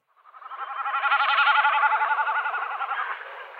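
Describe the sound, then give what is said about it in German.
A common snipe's drumming display outdoors: a rapid, vibrating bleat rising and swelling over about three seconds, then fading, heard alone. “Ist ein schöner Abschluss für das Hauptthema, die meckernde Himmelsziege.”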